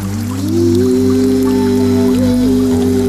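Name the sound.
river water flowing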